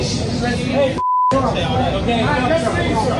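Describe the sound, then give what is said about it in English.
A single short, steady censor bleep cuts in mid-sentence, blanking out a word as a man talks in a busy setting before and after it. “I wish they would stop with the fucking beeping it.”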